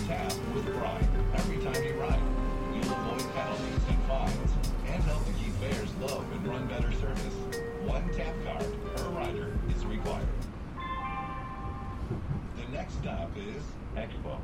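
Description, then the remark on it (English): Steady low rumble and rattling of a Metro E-Line light rail train in Los Angeles, bound for Atlantic Station in East LA, riding along the tracks, heard from inside the car, with voices and an announcement-like tone mixed over the continuous mechanical drone. “Welcome aboard the Metro E-Line. This train's final destination is Atlantic Station in East LA.”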